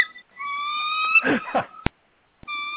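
animal, dog

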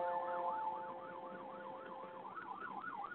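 vehicle, ambulance siren passing by

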